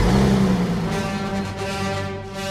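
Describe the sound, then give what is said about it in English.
A toy car engine revs loudly and continuously, its buzzy motor tone holding steady with slight rises and dips in pitch for a couple of seconds, with no talking. “Cars.”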